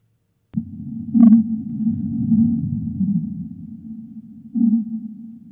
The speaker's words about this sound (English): So that's the whale. So those are the whales, yeah. Yeah. Cute. Yeah. Yeah. Man, and this is sped up.